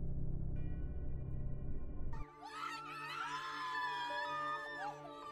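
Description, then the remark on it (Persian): A low, rumbling drone gives way to overlapping anguished screams and wails of prisoners in the Tower of London in 1536, several voices crying out at once in long, wavering howls that carry on to the end. “توی سلولش اینور اونور میرفت و سعی میکرد توجهی به فریادهای جگرخراش بقیه زندانیهای برج نکنه.”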